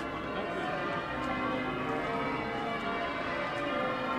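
The church bells of York Minster cathedral in York peal continuously in a dense, overlapping wash of ringing tones, steady and fairly loud, with a faint murmur of crowds gathering around the cathedral underneath, on a bright blue-skied morning in early April, the eve of the Easter weekend.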